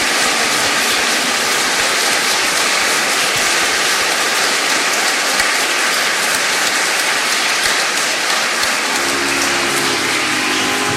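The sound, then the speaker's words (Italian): An audience at the Santuario Madonna della Fontana in Casalmaggiore, Cremona, breaks into loud, sustained applause for the Madonna and the friars after the final blessing, a dense, steady patter of many hands clapping without pause, with low sustained musical tones joining near the end. “Glorificate il Signore con la vostra vita e anche con un applauso alla Madonna e ai frati e andate in pace.”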